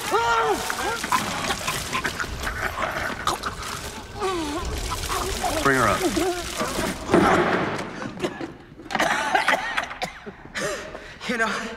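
Water pours steadily over someone's face during waterboarding while they sputter, cough and gasp in choked bursts, the splashing and strangled vocal sounds continuing throughout.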